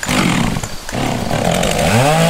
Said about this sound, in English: I'm starting this commercial with my Poulan Pro chainsaw running because I've personally tested my new Stinger Ballistic sunglasses by wearing them while cutting up down trees from Hurricane Laura.